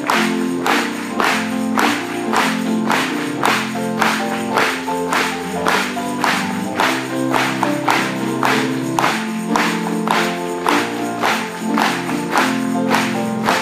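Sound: audience clapping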